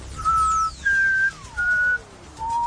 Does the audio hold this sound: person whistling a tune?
yes